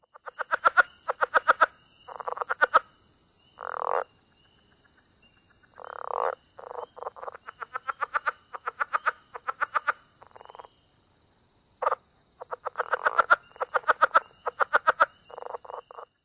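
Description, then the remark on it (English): A southern leopard frog calls in bursts of rapid clucking pulses and guttural croaks, with short pauses between series and a faint steady insect-like hum in the background. “And if you guessed correctly a southern leopard frog, you might want to consider volunteering for the Virginia Frog and Toad Calling Survey, part of the North American Amphibian Monitoring Program.”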